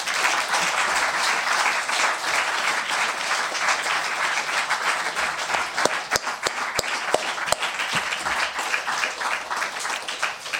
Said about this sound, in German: Also dafür jetzt mal einen ganz herzlichen Applaus.